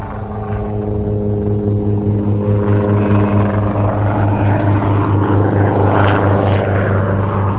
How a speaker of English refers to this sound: Today, cattle are being rounded up in this same pasture. While the land is too rough for trucks to be of any use, a helicopter significantly shortens the time spent working here.